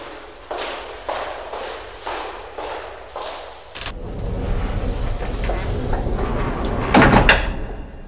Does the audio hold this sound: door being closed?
yes